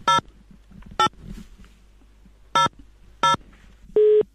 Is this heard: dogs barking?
no